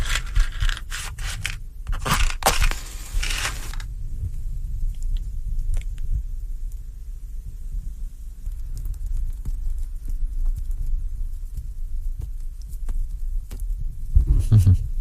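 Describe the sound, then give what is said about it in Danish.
A good, large cigar that takes some work to get lit being lit: a few seconds of scraping, hissing bursts, then a long stretch of soft, low, rhythmic puffing and muffled throbbing with no talking. “Ja, det kræver lidt arbejde at få ild på sådan en god, stor en som denne her.”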